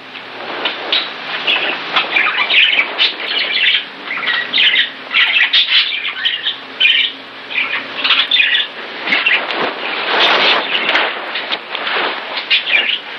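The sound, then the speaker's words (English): Pet birds squawk and screech nonstop, loud harsh calls overlapping in a dense, chaotic chorus with brief chirps mixed in and no pauses. “Can I go look at your birds?”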